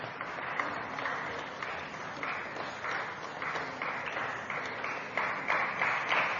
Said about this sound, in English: Before we hand over to the lady doctors who will now be presented the awards, one more big round of applause, Sai brothers and sisters, to all these doyens of medicine who have devoted their life to Swami and the organization and to humanity.